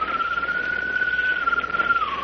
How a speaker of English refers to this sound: Wait a minute. What was that? It sounds like a bird. That's what it was. A bird's call. But I don't see any bird.